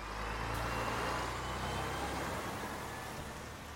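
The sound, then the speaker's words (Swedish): A bus engine rumbles steadily as the bus stands at a stop and passengers step off, with a deep low hum and broad road noise that eases slightly toward the end. No one speaks. “Det är helt tyst när man kliver av bussen.”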